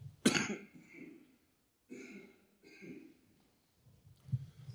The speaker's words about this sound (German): Und ich musste jetzt mal gerade husten zu diesem Gottesdienst, dass meine Stimme nicht ganz gut ist.